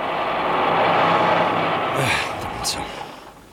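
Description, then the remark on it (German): A heavy truck engine rumbles and gradually winds down, followed by short hissing bursts like air brakes as the truck pulls up and stops in front of Professor Yarborough's house. “Einige Minuten darauf kamen Peter und Patrick mit dem Lastwagen. Patrick hielt vor dem Haus von Professor Yarborough.”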